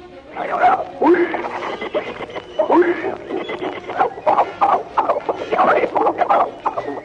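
A voice imitates rhesus monkeys with a loud run of excited hoots and chattering screeches, coming in rapid repeated bursts over about seven seconds.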